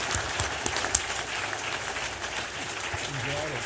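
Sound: applause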